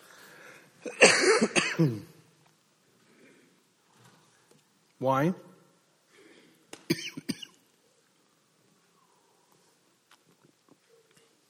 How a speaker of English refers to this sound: Sorry, one more cough coming. Sorry, I'm triggering everybody else's coughing too.